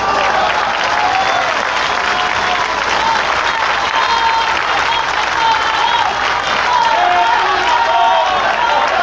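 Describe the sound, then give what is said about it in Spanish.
Sustained audience applause, dense and steady for the full length, a loud wash of many hands clapping with faint voices and a few whistles or shouts mixed in. “Un aplauso.”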